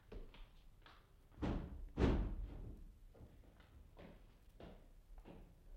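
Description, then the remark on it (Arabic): Repeated knocks and thuds on a wooden door, with two heavier thumps early on like the door being pulled open, followed by softer scattered taps. “إني أسمع الباب يدق”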